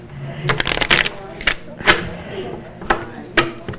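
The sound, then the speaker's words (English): Crisp shuffling of a brand-new deck of tarot cards for a reading: a quick rustling riffle, then several sharp, separate slaps and snaps as the cards are handled and squared. “All right, so I just shuffled the cards.”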